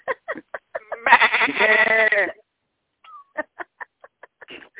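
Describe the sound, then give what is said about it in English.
A person loudly imitates a goat's bleat, a wavering, nasal cry lasting over a second, set between short bursts of conversation before and after. “Yeah, I'll be like one of my goats. I'll kick and scream and beller, you know, if you come and get me.”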